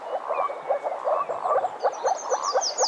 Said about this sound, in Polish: Dowiadujemy się, że to żaby moczarowe.